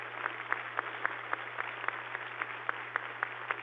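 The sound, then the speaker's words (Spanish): Sustained audience applause given in gratitude to families, a dense wash of clapping with regular, evenly spaced louder claps standing out in a steady rhythm, over a low constant hum, with no voices. “Queridas familias, les damos un aplauso infinito de gratitud.”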